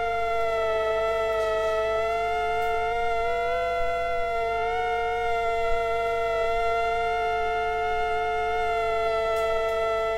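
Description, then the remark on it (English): Two mosquitoes of the same form, held a few centimeters apart without touching and recorded with a microphone, hum together in a steady, high whine rich in harmonics, their pitches wavering slightly and blending as if harmonizing, continuous throughout with no talking. “And what you might hear there, Rob, is that the two insects seem to be harmonizing with each other.”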